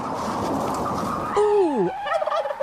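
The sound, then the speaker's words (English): A big bird gobbling loudly: a swooping, downward-bending call breaks into a rapid, rattling warble, following a second or so of steady noisy hiss, with no talking. “Ooh! Ouch! Was that a big bird?”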